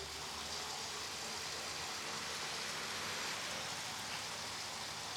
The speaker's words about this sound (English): It's filled in and the creek is now in its pipe, and we have a manhole cover that you can hear the creek sluicing down through its concrete tube.